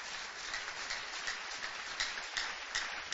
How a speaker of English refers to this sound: God has done more than enough. Give the Lord the loudest clap offering.